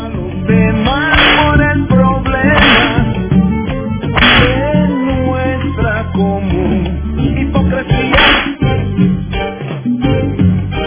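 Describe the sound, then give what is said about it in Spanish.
Several sharp whip cracks, about four, snap out at irregular intervals over a dense, loud music bed, each crack bright and sudden against the steady backing. “Latigazo a todo mundo.”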